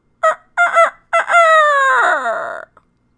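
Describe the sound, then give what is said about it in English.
A black cockerel crows loudly: three short clipped notes, then a long drawn-out call that wavers and falls away at the end, with no other sounds around it. “The dogs flanked the procession, and at the head of all marched Napoleon's black cockerel.”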